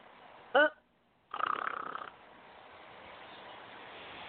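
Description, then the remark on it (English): A voice imitates snoring: a quick, tonal snort followed after a short pause by a longer, raspy, rattling snore, both fairly loud against a quiet background. “Snorex, when you need to snore, because you've got a bore.”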